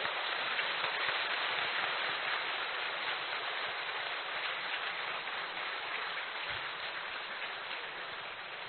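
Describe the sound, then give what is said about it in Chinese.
A crowd applauds warmly to thank Lu Junhong for his compassionate teaching: a dense, steady wash of clapping that holds for several seconds and eases slightly toward the end, with no voices over it. “让我们再次以热烈的掌声感恩卢军宏排长的慈悲开示。”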